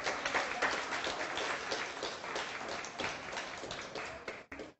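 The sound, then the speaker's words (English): An audience claps their hands in praise to God, a dense, steady wash of many hands applauding together, sustained for several seconds before tapering off. “If you believe God is good, let's give him a hand clap of praise.”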